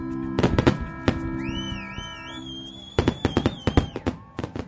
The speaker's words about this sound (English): Then, when the fire reaches the stars in the center of the shell, the firework explodes. It creates a wonderful show.